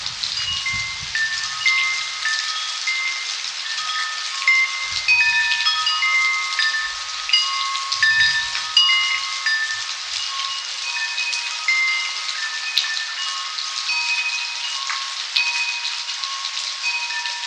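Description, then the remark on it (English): Steady rain hisses without pause through a midnight rainstorm in California, recorded by Eric Vanderwick, while scattered metallic wind chime tones ring out and linger over it. Occasional low thumps sound beneath, and no one speaks. “We leave you this week in California during a midnight rainstorm.”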